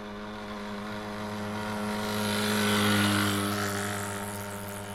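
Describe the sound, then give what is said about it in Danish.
A small moped engine hums steadily with a buzzing drone as a boy rides it into the town of Regnstrup at 10:28, a sports bag on its luggage rack; it swells louder around the middle and then eases off slightly as it carries on, with no voices. “Klokken er 10.28, og drengen kører ind i Regnstrup. På knallertens bagage bærer en sportstaske.”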